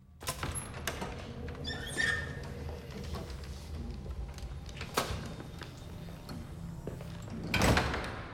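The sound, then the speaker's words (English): Heavy double doors at the end of a shadowy corridor with papers littering the floor are pushed open with a creaking squeal and a few dull knocks, ending in a louder thud as they swing through, over a low rumbling background. “Rick makes his way to a set of double doors at the end and heads through.”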